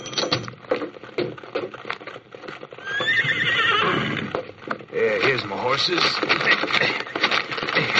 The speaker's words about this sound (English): Horses.